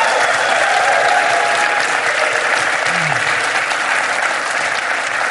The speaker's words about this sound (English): You know, that sound you hear, listeners and us, is the thundering masses at the MIT and Sloan Sports Analytics Conference.